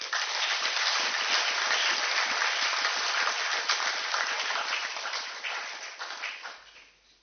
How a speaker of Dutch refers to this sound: mag ik jou bijzonder danken en onder applaus naar voren roepen.